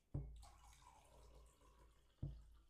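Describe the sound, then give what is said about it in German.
A drink is poured into a glass in a steady, splashy stream lasting about two seconds, framed by a dull knock at the start and another at the end. No voices. “Wobei, jetzt kannst du mir nochmal einschenken.”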